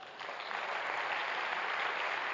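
An audience at a church gathering applauds the meeting leader steadily, a dense, even wash of clapping that holds at a fairly loud level for a couple of seconds without pause.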